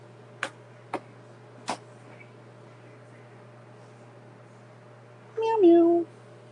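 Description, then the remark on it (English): Three sharp ticks sound first, then after a quiet pause comes a single clear meow from a female cat, with a falling pitch, loud and alone near the end. “I spoke to my cat and said, "Oh, it appears you would like some milk." And she said, "Meow."”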